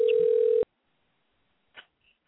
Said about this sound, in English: We'll give her a few rings here.